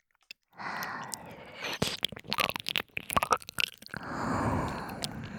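Wet tongue licking sounds, a quick run of slurping, smacking clicks in the middle, framed by soft breathy hissing at the start and end. No talking.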